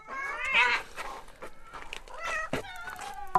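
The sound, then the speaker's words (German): Several cats in a house meow and yowl in overlapping bursts, their high, wavering cries rising and falling over about three seconds, with a few short clicks and shuffles between calls. “Und überall diese Katzen.”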